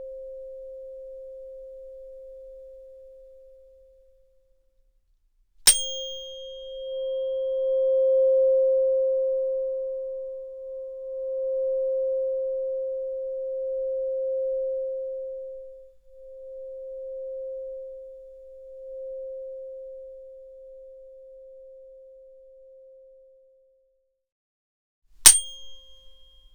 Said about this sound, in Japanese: この音叉の音、ソルフェジオ周波数って言うんだよ。この音は体の痛みを和らげるだけじゃないの。そう、心の痛みも癒してくれる。